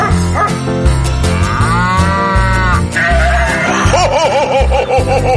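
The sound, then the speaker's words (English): Loud, drawn-out cow mooing and other wavering farm animal calls over a steady musical backing, several calls following one another in quick succession. “Hello there, farm animals. What do you male animals want for Christmas?”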